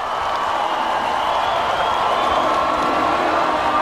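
A crowd of 65,000 people singing together outdoors in London's Hyde Park on July 1st while waiting for a a band concert to start, thousands of voices merging into a steady, loud, echoing wash of sound that holds without a break throughout.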